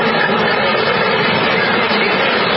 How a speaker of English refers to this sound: You can't even see the microphone or the cable. There is probably 1,000 bees on this microphone.